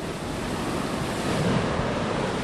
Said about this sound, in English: We're standing in front of the Stillen Basin for Attucks Dam. This is where the water passes through our water control structure and is emptied into the tributaries of Buffalo Bayou downstream.